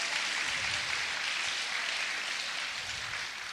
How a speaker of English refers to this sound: Yeah, give a clap for Jesus.